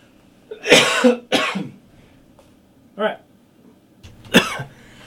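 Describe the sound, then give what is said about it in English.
A run of harsh coughs: two forceful bursts back to back, a smaller hack, then one more loud cough after a short pause, with quiet room noise between. “Just coughing away.”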